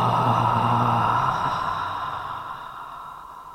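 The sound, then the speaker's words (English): Several people breathe out together during a guided breathing exercise on a sunny afternoon, in one long, forceful exhale, opening with a voiced "ha" that trails off into a fading, breathy whoosh over a few seconds. “Breathing out with a ha.”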